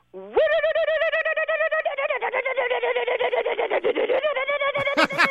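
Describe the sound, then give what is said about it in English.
A voice imitates a cold car engine trying to start as the key is turned in the ignition: a sustained, high nasal hum that breaks into rapid rhythmic sputtering pulses midway, then steadies again before cutting off. “Anyway, when a car is cold, and only when it's cold, it won't start. So I put the key in the ignition, and I turn the ignition, and it goes.”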